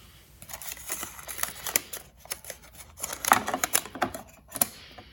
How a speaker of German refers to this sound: Das Gerät hat die Möglichkeit, die gespielten Melodien mittels eines kleinen Kugelschreibers auf Bongs zu plotten und somit die wunderbaren Symphonien des Yamaha Portasound MP1 auf Papier zu verewigen.